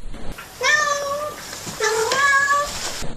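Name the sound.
cat meowing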